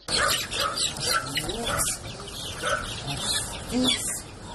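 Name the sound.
chickens clucking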